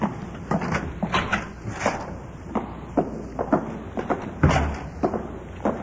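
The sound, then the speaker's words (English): A side door into an office is opened and shut, with a series of wooden knocks, clicks and soft thuds spread over several seconds and no voices. “Let's go in the side door here.”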